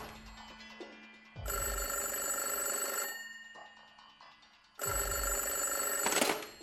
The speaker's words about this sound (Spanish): la llamada de teléfono de un posible comprador al dueño de la inmobiliaria.